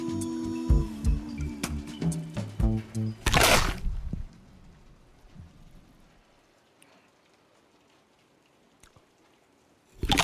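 Soft rain patters steadily against a window, a faint, even hiss of droplets that follows a few seconds of bright, chiming musical tones and a brief loud rush of noise.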